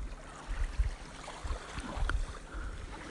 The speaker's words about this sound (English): It's after sunset, and we have found an unspoiled Maldivian beach. Very natural. It's beautiful. It's really nice. Maybe you can hear the sound of the waves.